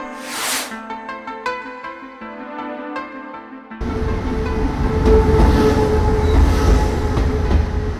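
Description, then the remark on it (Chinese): A tilting passenger train, the Taroko Express, slowly rolls into platform 3 of Hualien railway station on January 23 with a steady, loud mechanical rumble and rattle, preceded by a few seconds of sustained tonal notes like a horn or station chime. No voices. “花莲乡亲期盼多年的倾斜式列车太鲁阁号，元月23号缓缓地驶进了花莲火车站的第三月台。”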